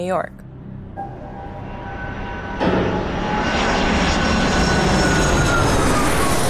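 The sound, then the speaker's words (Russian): A steady airplane engine drone with a whining tonal hum swells suddenly louder a few seconds in and keeps building into a full, broad roar like a plane powering up, on a plane bound for New York. “30 июля я села в самолет до Нью-Йорка.”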